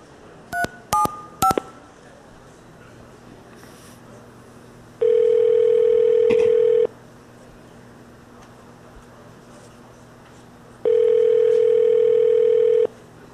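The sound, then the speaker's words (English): A few quick touch-tone keypad beeps as a phone number with a 917 area code is dialed, followed by two long, steady telephone tones separated by a pause, with a faint background hum and no talking. “Okay, this person has a 917 number.”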